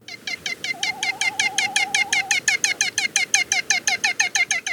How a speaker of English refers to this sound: We've got the song of this storied seabird today, thanks to the Macaulay Library at the Cornell Laboratory of Ornithology.